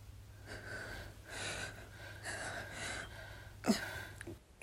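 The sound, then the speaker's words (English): A woman's quick, ragged gasping breaths come in a series of airy bursts, with a sharper catch of breath near the end. No one speaks. “Her breathing was in quick gasps.”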